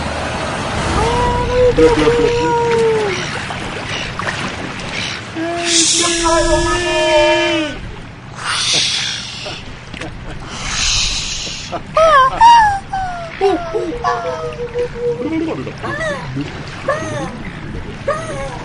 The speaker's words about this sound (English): But I think the storm looks like it's really closing in now. So batten down the hatches. Uh-oh. No. Sounds like the boat is going down.